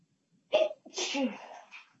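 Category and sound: human body sound, sneeze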